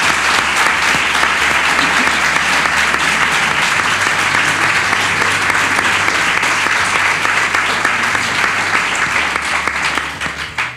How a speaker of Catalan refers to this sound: Un aplaudiment, no?